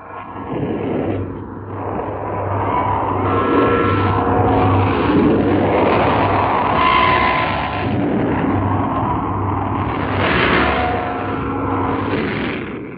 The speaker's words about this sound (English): as he opened the microphones on what sounds like a steady roar, but is actually the sound of 2,000 saluting cannons intermingled with the bells of the Kremlin. Listen now to 2,000 guns proclaiming Russian Victory Day.